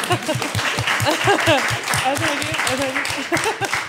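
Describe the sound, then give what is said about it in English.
An audience claps steadily in a dense, continuous burst of applause, with overlapping voices cheering and calling out over the clapping throughout. “A big round of applause.”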